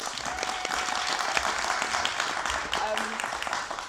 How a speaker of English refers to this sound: First of all, round of applause for Polly Toby for being here.